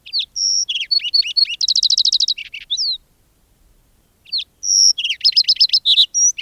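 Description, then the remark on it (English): A lark sparrow sings two bright, varied phrases separated by a pause, mixing clear whistled notes, buzzy trills and rapid chattering pulses, clear with no other sounds. “Well, for one, to remind us just how beautiful a sparrow can be, and how distinctively one sparrow can sing.”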